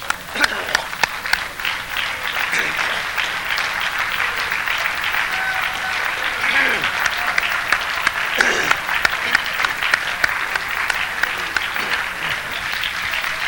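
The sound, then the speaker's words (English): A large audience claps steadily and loudly for over ten seconds during a church sermon, a dense wash of applause, with scattered voices and cheers rising briefly underneath. “I think he needs applause for that.”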